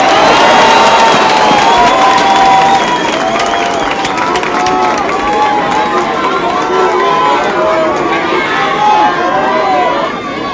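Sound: crowd applauding and cheering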